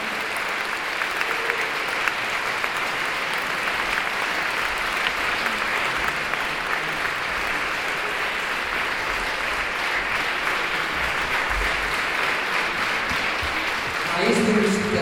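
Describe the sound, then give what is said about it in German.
Sustained, dense applause from a large audience for a performing artiste fills nearly the whole stretch, steady and loud, with a voice briefly coming in near the end as the clapping fades. “Dann braucht man einen richtigen Applaus nach einer so guten Artista hier hinter mir.”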